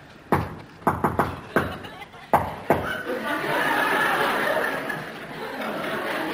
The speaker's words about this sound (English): He was so cute with all that singing and dancing and that sweet little way he had a knocking at the door.